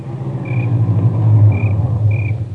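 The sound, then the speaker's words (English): A car engine rumbles low as the vehicle pulls up and rolls to a stop in the driveway of a house on a ranch, with three brief high squeaks like brakes over the steady idle. No one speaks. “There was another car in the driveway when we pulled up.”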